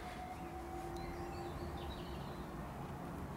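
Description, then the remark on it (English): A distant train rumbles steadily past, a low continuous roar with a faint sustained tone above it and a few birds chirping lightly in the background; no one speaks. “Every now and again, you hear the train going past in the distance.”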